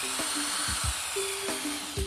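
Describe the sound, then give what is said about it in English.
A surgical drill whirs steadily with a high, hissing whine, boring holes through bone to fix a plate holding two pieces of broken bone together, over a couple of seconds, broken by a few low knocks. “Okay, let's drill some holes.”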